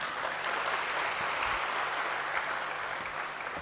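Steady audience applause after a welcome song at a gathering, a dense wash of many hands clapping at an even level throughout, with no voices rising above it.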